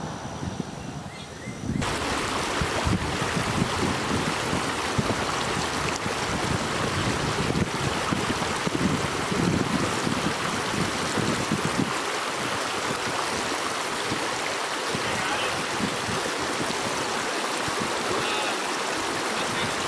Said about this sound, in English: Okay, it's pretty windy down here, so I doubt anybody can really hear what you guys will be saying, or were saying, or whatever.